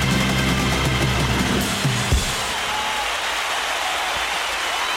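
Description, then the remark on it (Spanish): An audience on the Andalusian night radio programme El Flexo applauds steadily, a dense wash of many hands clapping that stays loud and even throughout, with a low rumbling undertone in the first couple of seconds. “Estos aplausos son para Antonio Franco y Dani Piñero, que han estado en la técnica.”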